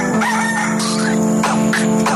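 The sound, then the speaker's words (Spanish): A rooster crows loudly, its drawn-out, wavering call filling the moment over a steady tonal hum, with a couple of sharper bursts near the end. “El gallo.”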